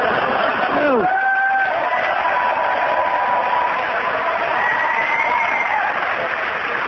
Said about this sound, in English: I've never heard anybody finish in fourth place and get a bigger cheer than that.